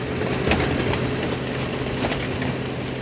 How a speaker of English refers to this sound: there's a big yellow machine that has a blue Pontiac inside. One of her employees walks over and flips a switch. Right now, he's having to turn on the crusher. Within a few seconds, the car is squished into a block of metal that's ready for scrap.